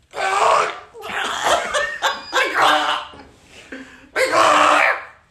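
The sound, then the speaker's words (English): A person imitates a chicken clucking, a loud run of choppy, squawky vocal bursts with short breaks between them, ending in one longer drawn-out cluck. “I've been working for years on my on perfecting my chicken noise.”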